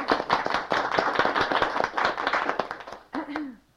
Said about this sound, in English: So if they'd all rise, we'd really like to clap for you. Thank you.